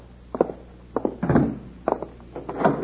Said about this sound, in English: he's locking the door. Sure. Always keep the bank locked.